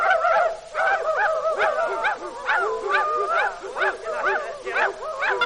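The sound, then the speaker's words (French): Several dogs bark in quick, overlapping bursts throughout, a busy, fairly loud chorus of yaps and woofs with a few higher whining yips mixed in. “Allez, les chiens, là-haut.”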